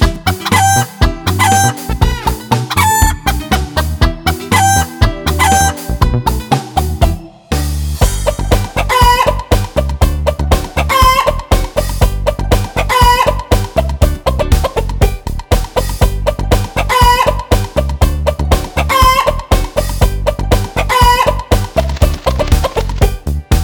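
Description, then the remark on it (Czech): A rooster crows and clucks repeatedly over a loud, steady musical backing with a driving beat, the calls recurring in a rhythmic pattern throughout. “Došao i petao, krilima lepetao, pa digao viku, kuku, kukuriku.”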